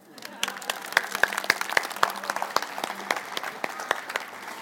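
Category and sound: crowd, audience applause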